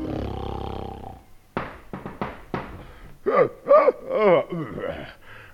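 A man snores with a long, rumbling breath, then lets out a run of short snorts and throaty grunts, fairly loud, with no talk.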